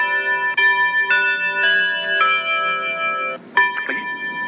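A device's bell alarm tone, played while being selected as the alarm sound, rings in a repeating pattern of bright, sustained chime strikes roughly every half second, clear, with a brief pause before a couple more strikes.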